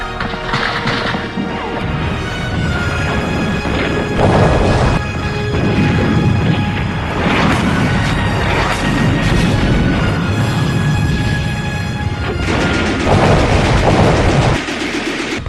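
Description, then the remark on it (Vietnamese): A loud, relentless barrage of wartime artillery explosions filling the sky, heavy booms and crashing blasts piling on top of one another in a dense, rumbling roar that never lets up, with no voices. “Pháo răng răng bao phủ khung trời, ngày nào cũng ăn pháo từ sáng đến chiều thì chắc ít nhất cũng vài ngày.”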